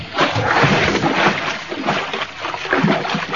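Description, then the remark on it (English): A loud splash as a man dives into water from a boat, followed by continuous churning and sloshing for a few seconds, with no voices. “Grab the tiller, Natisa. I'm going in after him.”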